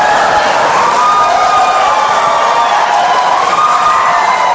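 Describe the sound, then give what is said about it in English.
A large presidential debate audience erupts in loud, sustained cheering and applause after Donald Trump tells Secretary Clinton she would be in jail, a dense wall of voices and clapping that stays steady for several seconds with no pauses. “We want to remind the audience to please not talk out loud. Please do not applaud.”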